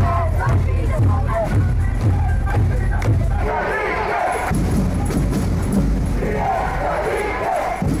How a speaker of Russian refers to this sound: А на втором этаже фанаты вовсю поддерживают команду. Болельщики от школьников до пожилых людей все вместе кричат речевки.